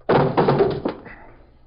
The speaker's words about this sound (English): Watch it. Kick the door open.